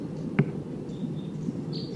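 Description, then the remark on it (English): A wild bird gives a few faint, thin, high-pitched whistled notes over a steady low background rumble, with a brief sharp tick early on. “The wild bird sounds almost like 258.”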